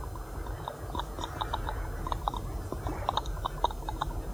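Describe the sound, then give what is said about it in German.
Water laps gently against a boat's hull in small, irregular wet slaps and clicks over a low, steady rumble, fairly quiet, with no voices. “Das ist das Wasser an der Bordwand.”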